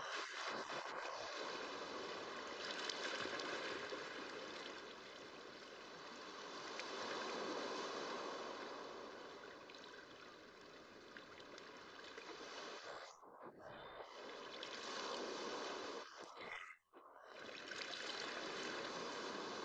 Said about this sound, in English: The undertow gently lifts you up, and you let yourself go so that you float on the surface. You float in a state of weightlessness, lulled by the lapping of the water.